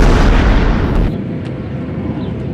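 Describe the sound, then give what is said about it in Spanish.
A loud, roaring explosion fills the first second, then cuts to a lower, rumbling wash of debris and echo. It sounds like rocket fire or a bombing blast, with no voices: rockets fired from the Gaza Strip toward Israel and Israeli bombing of the Palestinian enclave. “En la noche del lunes 10 de mayo, el movimiento islamita terrorista Hamás, en poder en la Franja de Gaza, lanza cohetes hacia Israel que como represalia bombardea el enclave palestino.”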